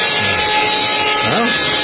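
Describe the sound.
A vacuum cleaner is used in a radio studio during a show's break, running with a loud, steady whirring roar and a constant motor hum, while a voice briefly speaks over the noise.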